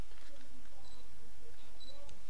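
A camera fitted with a third-party BG-E7 battery grip, just switched on, gives two short, high-pitched electronic beeps about a second apart, fairly quiet over a low background hum.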